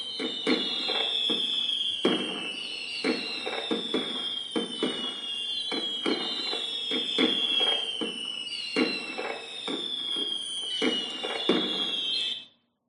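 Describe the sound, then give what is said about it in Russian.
A dense run of festive salute fireworks over the Neva in Leningrad, honouring the city's full liberation on 27 January 1944: rapid booming bursts and crackles mixed with high, falling whistles, going on steadily for about twelve seconds before cutting off abruptly. No one speaks. “В честь полного освобождения города 27 января 1944 года над Невой прогремел торжественный салют.”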